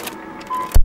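A short car sound effect, less than a second long: a hissing mechanical whir with a thin steady tone, ending in a heavy low thud. No one speaks.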